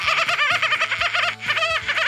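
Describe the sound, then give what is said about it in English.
A person imitates a dolphin as a trick-or-treat trick, with a loud, rapid string of high-pitched squeaky chatters and whistles that bounce up and down in pitch, almost like giggling, sustained for about two seconds. “I'm going to make the noise of a dolphin.”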